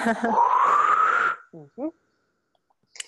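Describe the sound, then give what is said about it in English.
A long, drawn-out yawn with a rising, moaning pitch, fairly loud, then a couple of brief murmured vocal sounds before it falls quiet. “Oh, I'm yawning like crazy here.”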